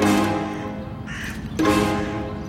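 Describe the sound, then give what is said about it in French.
Crows caw loudly in the Père Lachaise cemetery, two long, harsh, rasping calls separated by a brief pause, with no voices present. “Balade dans le Père Lachaise à la recherche de la tombe de Dracula, ce jour-là, les corbeaux étaient aussi au rendez-vous.”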